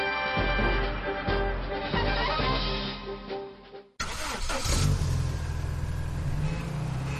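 A car engine revs loudly with a droning, rising tone, cuts off abruptly midway, then a rougher, noisier engine roar picks up and keeps running steadily to the end.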